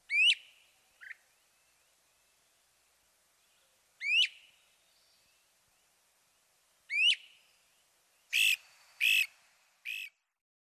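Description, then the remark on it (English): A great crested flycatcher calls: three loud, rising whistled wheeps spaced a few seconds apart, then a quick run of three harsher, buzzy notes, with no voices. “One can hear the great crested flycatcher in almost any neighborhood right now, and see this bird, too, with not too much effort.”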